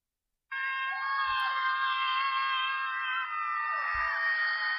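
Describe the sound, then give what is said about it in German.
A long, loud scream of people screaming out of windows starts abruptly and holds steady for about four seconds, several shrill voices seeming to overlap into one continuous high-pitched wail, with no talking. “Ja, die schreien dann wirklich alle aus dem Fenster raus.”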